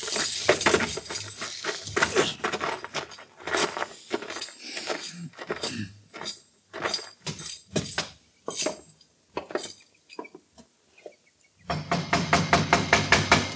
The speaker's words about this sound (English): Don't be banging on the door. I seen you coming.